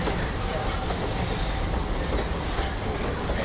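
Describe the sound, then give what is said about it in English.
A train rolls steadily along the tracks with a dense, continuous rumble and rattle of rail cars, holding an even loudness throughout with no clear voices. “But after working on the railroad all the livelong day, it's nice to come home to good old Main Street, USA.”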